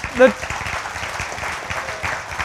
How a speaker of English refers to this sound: And listen, you ought to clap. We ought to just go nuts over that.